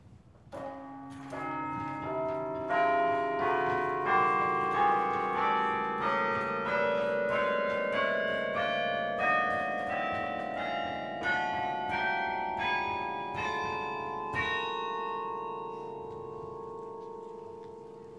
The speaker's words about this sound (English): As time went on, bells were added to the instrument, a few at a time. Over the years, the chime grew to its current total of 21 bells.